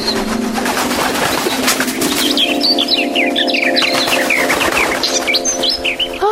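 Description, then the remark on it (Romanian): A busy flock of swallows twittering nonstop in quick overlapping chirps, with a rush of fluttering wings at the start, all fairly loud with no one speaking. “Rântunele mititele, arătați-vă în spor să ne fiți de ajutor.”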